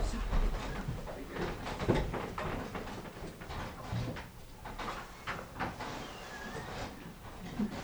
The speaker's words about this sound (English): I'm gonna shut these doors here.